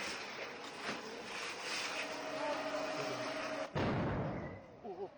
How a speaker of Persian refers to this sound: صدای انفجار بود. حالا احتمال می‌دیم که این انفجار ناشی از همون آتش سوزی باشه.